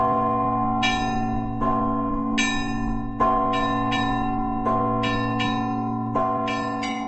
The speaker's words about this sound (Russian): Однажды я записывала шум московской улицы, и когда монтировала запись, то услышала в скрипе тормозов звон буддийских колокольчиков. Им вторили церковные колокола.